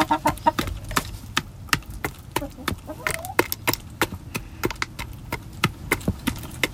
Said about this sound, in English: that was the sound of my chickens eating.